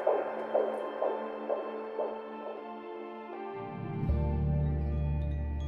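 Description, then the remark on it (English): A fetal heartbeat from an ultrasound monitor during a sonographer's scan, a quick, steady run of soft whooshing pulses over a droning hum, giving way to a deeper, louder hum as the beats fade. “And all of a sudden, for 5 minutes and 10 seconds, the room is full of the light, constant fluttering of their lost baby's heartbeat.”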